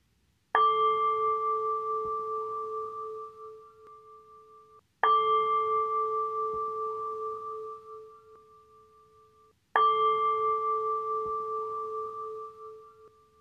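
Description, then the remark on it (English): A meditation bell is struck three times at even intervals, each strike a bright, clear tone with steady harmonic overtones that rings out and slowly fades before the next strike. “And listening to the sound of the bell.”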